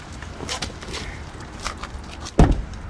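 Outdoors in a parking lot in Cedar Rapids, Iowa, in January, a car door is handled: light clicks and shuffling, then one solid, sharp thunk near the end as the door swings and bumps.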